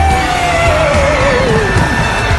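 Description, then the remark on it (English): A crowd of people screams together in a Halloween Scream Along, a loud, sustained wall of noise, with one voice sliding downward in pitch above the din for about two seconds. “Just scream like you're trying to wake the dead!”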